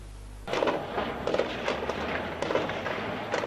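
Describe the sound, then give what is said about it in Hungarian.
Gunfire crackles across Cairo, Egypt, during clashes between protesters, irregular pops and bursts scattered over a constant rumbling wash of background noise, with no clear voices. “A városban fegyverropogás hallatszik, a külváros egy része lángokban áll.”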